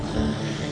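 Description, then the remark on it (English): An audience at a slam event imitates thunder with a steady, dense rumble, a continuous low roar that holds an even loudness throughout, with no distinct voices or breaks. “That's the thunder.”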